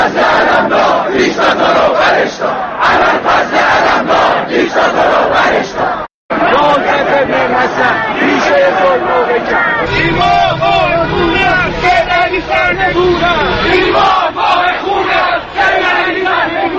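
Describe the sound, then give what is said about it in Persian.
A large street crowd of Green Movement supporters in Iran chants political and religious slogans during Muharram in loud, rhythmic unison, voices rising and falling together over a constant roar of many people, with a brief cut near the middle before the chanting resumes. “هواداران جنبش سبز همانطور که وعده کرده بودند با شعارهای سیاسی و در عین حال مذهبی به خیابانها آمده بودند.”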